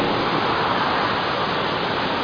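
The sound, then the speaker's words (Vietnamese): Heavy rain pours down in a dense, steady hiss that fills the whole clip at a constant loudness, with no voices and no breaks in the roar. “Mưa to có nghe được không?”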